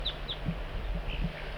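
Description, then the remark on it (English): An adult bird gives a few soft, short high flight calls spaced irregularly, coaxing a juvenile in, with some low clucking notes between them, over a steady low background rumble. No one is talking. “Bird 4-3 coaxing the juvenile in with soft flight calls.”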